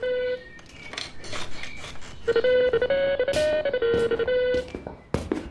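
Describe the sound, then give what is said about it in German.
The telephone of the poet Heinz Strunk rings in the early morning while he is still in bed: a loud melodic ringtone, a bright electronic tune of steady tones stepping up and down in pitch, with a few clinking clatters scattered around it. “Doch das plötzliche Klingeln seines Telefons reißt ihn aus den wohligen Gedanken eines verblassenen Traums.”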